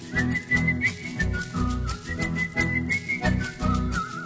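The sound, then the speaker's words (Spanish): A person whistles the music of a little song instead of singing its words, a bright, lilting melody over a rhythmic musical backing, the high whistled notes gliding and bouncing in a steady, upbeat pattern with no talking. “Y en vez de la cancioncita, solo la música chifló.”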